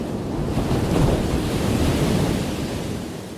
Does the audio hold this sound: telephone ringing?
no